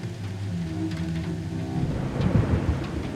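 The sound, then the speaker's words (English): A thunderstorm with hail, rain and wind sweeping over a city: deep rolling thunder rumbles continuously beneath steady rain, swelling louder and denser near the end, with no voices present. “Hail, rain, wind, a roaring peal of thunder, as if a thousand mountains were rolling one over the other in the blue vault of heaven.”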